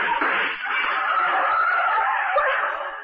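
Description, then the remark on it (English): A car roars past, skidding with a loud, sustained tire screech lasting about three seconds, steady and harsh throughout, as gunshots are fired from the car by its driver, with no voices. “The driver of that car threw some hot lead our way.”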